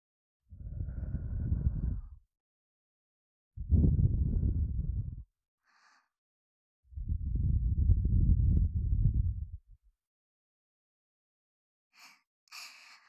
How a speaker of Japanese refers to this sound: お耳をふうふう、温かな吐息、いかがですか？